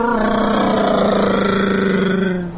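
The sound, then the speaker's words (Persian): A motorcycle engine roars past at speed, a loud, steady buzzing whine with a rich harmonic tone that holds for a couple of seconds before dipping and tailing off at the end. “الان فرض کن یه خانومی روی موتور از اون دورا داره میاد، گوش کن.”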